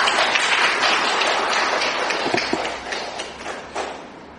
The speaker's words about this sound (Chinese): 让佢分享上帝喺佢生命里面嘅见证。我哋俾啲掌声鼓励佢好吗？